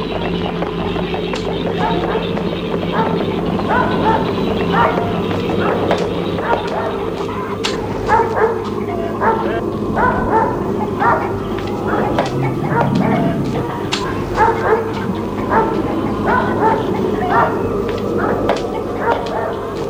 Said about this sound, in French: Dans la cour de la ferme. Un chien vient vers eux et aboie.